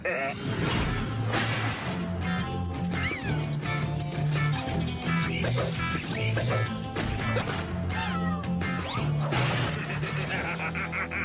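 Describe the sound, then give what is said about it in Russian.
Several cats meow and yowl over a loud, dense backdrop of music and clattering crashes, the cries rising and falling throughout. “Да чего же хороши мои плохие киски!”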